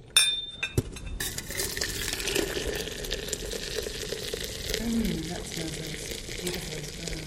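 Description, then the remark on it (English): A few sharp china clinks, then a steady rush of boiling water poured into a teapot holding measured tea continues for several seconds, its tone shifting slightly as the pot fills. “The secret with tea is to pour the water boiling into the teapot.”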